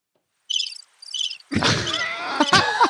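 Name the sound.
bird chirping sound effect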